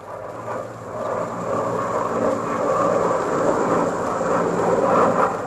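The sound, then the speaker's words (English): A Mosquito aircraft, taken up by Cheshire with McCarthy, drones steadily in flight: a continuous loud rumbling engine roar with a low throbbing hum that swells slightly toward the end, no voices present. “But eventually they did, and he wasted no time in taking one up for a flip with McCarthy.”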